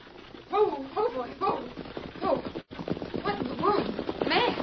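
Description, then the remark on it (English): Hooves clip-clop in a steady rhythm as a horse and wagon draw near, mixed with voice-like sounds and a brief break partway through. “Somebody come. It's a horse and wagon.”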